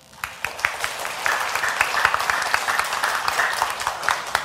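A crowd applauds steadily for the church pianist, many hands clapping in a dense, continuous patter with a few sharper individual claps standing out, sustained at an even level for several seconds.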